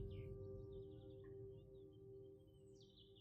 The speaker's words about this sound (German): Das Licht blinzelt durch die Blätter und du hörst die Vögel singen.